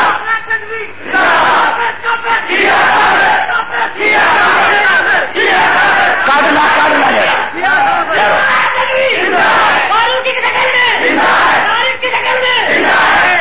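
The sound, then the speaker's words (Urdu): A large crowd at a religious gathering, where the Prophet's glory is being praised, chants religious slogans in loud, rhythmic unison, the massed voices rising and falling in repeated bursts over about thirteen seconds. “جنہیں آج نعرے نال واٹ کرنا کر لو.”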